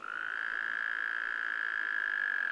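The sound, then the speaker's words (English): Wyoming toads breeding on a landowner's land give a breeding call: a steady, unbroken high trill that holds at an even loudness throughout, clear, with no voices present. “After today, Lindsay looks forward to hearing the sound of Wyoming toads breeding on his land.”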